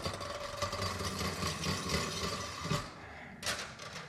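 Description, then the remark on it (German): A humming top (Brummkreisel), pushed to set it spinning, drones steadily with a buzzing, engine-like tone and a continuous rattle, briefly swelling louder near the end. No one speaks. “Er brummt und rattert.”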